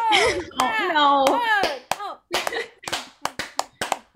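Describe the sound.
A slow hand clap: roughly ten sharp, evenly spaced claps in a steady rhythm. The first few overlap a voice speaking or laughing, and the rest ring out alone.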